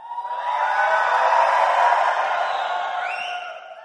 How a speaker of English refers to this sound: Okay, you can stop clapping. Shout to God with a voice of triumph.